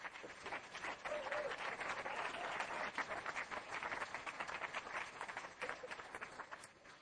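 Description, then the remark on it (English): A crowd applauds steadily for several seconds for the standing facilitators and theme team, dense overlapping claps at a fairly loud, even level, with faint voices mixed in beneath the clapping. “I'd like them all to stand up and give them a round of applause before we even get started.”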